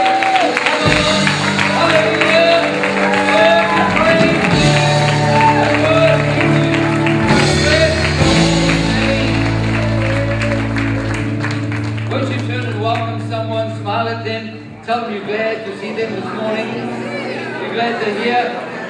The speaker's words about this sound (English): Why don't you give the Lord a big hand of praise and shout.